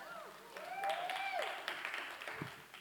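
A short burst of audience applause at New City, a dense patter of many hands clapping at once, with a few high whoops and cheers rising over it before it tapers off.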